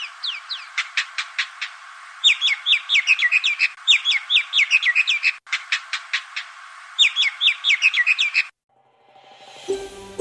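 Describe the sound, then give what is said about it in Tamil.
Indian myna calls ring out loud in repeated bursts of sharp clicks, whistles and chattering notes for several seconds, then stop abruptly before a short whooshing sound. “பூச்சி பிடிக்க வந்த இந்திய மைனா பிற பறவைகளுக்கு யமனாக மாறியதோடு நம்மை பார்த்து மனிதர்களின் கண்ணில் விரலை விட்டு ஆட்டும் கதையாக இந்த பறவை மாறிப்போனது.”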